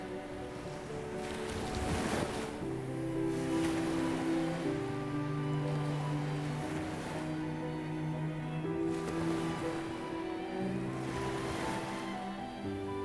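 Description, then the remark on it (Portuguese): Soft ocean waves wash onto the sand and recede in slow, broad swells, layered under a calm, sustained musical drone with gentle tones, steady and moderately quiet throughout. “Ouça o suave som das ondas acariciando a areia.”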